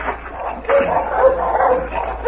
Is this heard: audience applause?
no